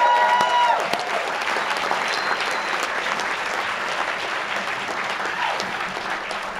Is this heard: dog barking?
no